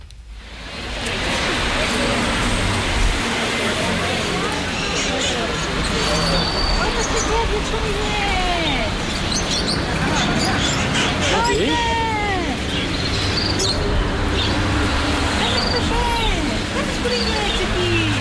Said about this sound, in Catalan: Els conillets aquí. Clar, i era una mescla de cotxes amb pobrets, aquests animalets que estaven engabiats.